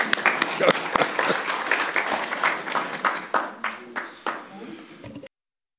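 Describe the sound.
An audience applauds with dense, rapid clapping and a few voices mixed in. The clapping thins slightly toward the end and cuts off abruptly after about five seconds.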